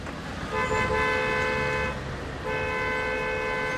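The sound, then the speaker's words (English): Car horns blare in two long, sustained honks, one right after the other, over a steady rumble of gridlocked street traffic of cars, bicycles and people in Nairobi, Kenya, without traffic lights. The honks are loud. “Nairobi, city of gridlock. Cars, bicycles, and people vie to be the first to arrive at their destination without the aid of traffic lights.”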